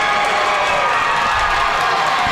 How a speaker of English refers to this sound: That loud cheer you hear is coming from the Cambridge-Forest Lake battle.